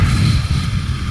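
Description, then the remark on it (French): A long, deep exhale blown into the microphone as a person breathes out after taking a big breath, a steady breathy rush with a heavy low rumble that lasts just over a second. “On expire.”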